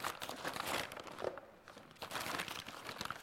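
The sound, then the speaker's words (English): A dingy paper bag crinkles and rustles as it is handled, a steady crackling that eases briefly midway before picking up again. Fairly quiet, with no voices. “It's a paper bag, right? A dingy paper bag made out of paper.”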